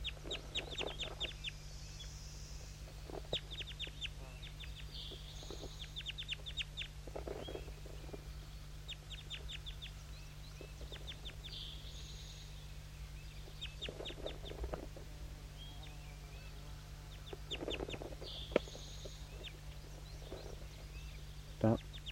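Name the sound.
birds calling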